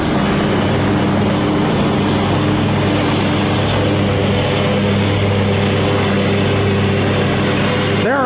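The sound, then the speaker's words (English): A loud car engine rumbles steadily in Battle Lake, its deep droning hum holding for several seconds, with a slight shift in pitch near the end as it moves off. No one speaks. “Mowers, loud parties, machinery, barking dogs, and loud cars.”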